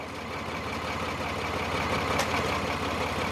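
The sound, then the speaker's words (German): A tractor engine runs steadily, a continuous low rumbling drone with a faint rhythmic throb, holding at an even loudness with no voices. “sitzt gerne auf dem Traktor.”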